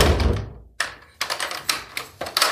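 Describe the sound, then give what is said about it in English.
A heavy palace door thuds shut with a low boom that fades, then a quick series of sharp metallic clicks and rattles follows as the door is locked. No one speaks. “Now close it, and I want to hear you lock it.”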